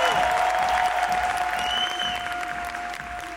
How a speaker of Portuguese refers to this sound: Recebam as palmas da galera em pé. Guarda bem essa cena. Olha bem para isso.